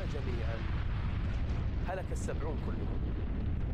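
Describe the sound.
Loud, continuous rumbling thunder from a lightning strike, a dense low roar that holds steady for the whole stretch, with faint wavering, voice-like tones rising briefly through the middle.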